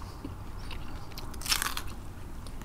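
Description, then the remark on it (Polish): A crisp bite into a raw radish: one short crunching burst of cracking snaps partway through, over quiet background with no talking. “Tym bardziej musisz chrupać?”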